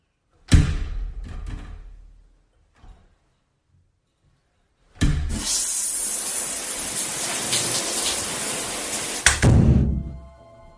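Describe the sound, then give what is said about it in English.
Shower water runs in a loud, steady hiss of spray for about four seconds before cutting off, preceded by a shorter, fading rush of water and a faint knock. “Now get a shower and meet me downstairs.”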